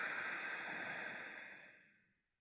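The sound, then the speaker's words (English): A slow, airy exhale during a guided breathing exercise, a steady breathy rush that holds for about two seconds and then fades gently to silence, soft, with no talking. “Breathing out.”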